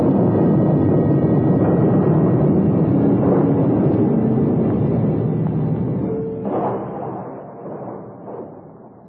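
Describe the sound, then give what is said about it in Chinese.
A loud, continuous low rumble of thunder and shaking ground at the crucifixion of Jesus, dense and roaring for several seconds before gradually fading, with a few sharper cracks breaking through near the end. “突然间雷声大作，地动山摇，人们都扑倒在地上，万分恐惧。”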